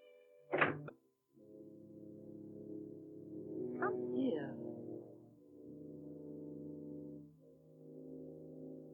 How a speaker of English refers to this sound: Close the door, Cinderella.